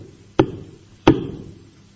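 Two firm knocks on the door of the first house in a village beside a river, spaced well apart, each a sharp thud with a short, low wooden ring that fades before the next. No voices are heard.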